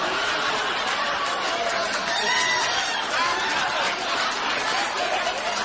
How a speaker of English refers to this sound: Got a little applause there.